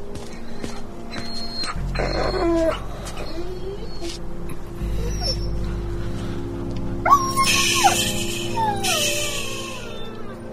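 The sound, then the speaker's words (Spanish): The Whartons' injured dog, not expected to survive, whimpers and howls in high, wavering cries that rise and fall in short bursts over a steady low rumble in the background. “Es el perro de los Wharton.”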